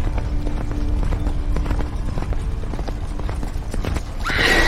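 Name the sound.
horse hooves galloping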